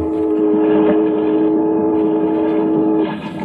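The world's first steamboat, on the Hudson, sounds a long, steady steam whistle blast lasting about three seconds over a low mechanical rumble, loud, with no voices.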